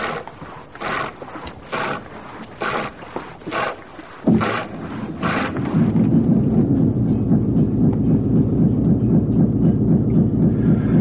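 Several rhythmic scraping bursts give way to a boat engine starting up, settling into a loud, steady low rumble with a throbbing pulse that continues to the end.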